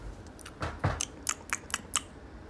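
Wet mouth smacking from someone chewing, a series of about seven quick clicky smacks in an uneven rhythm, fairly loud against a quiet background with no talking.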